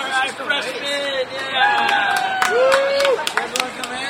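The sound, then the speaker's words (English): Students party in the street at night: a rowdy crowd of many voices shouts and calls out over one another outdoors, with people on balconies shouting to packs of students below. Sharp whoops and rising yells cut through a constant, loud babble of chatter. “People cluster on balconies, shouting to the packs of students below, roaming the streets in search of a party.”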